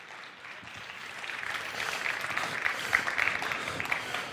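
A crowd applauds steadily, a dense wash of many hands clapping that swells slightly louder partway through and keeps going without any voices over it.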